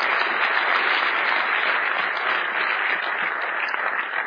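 Steady audience applause after a presentation fills the whole stretch. It is a dense, even wash of many hands clapping at a constant loud level, with no voices standing out.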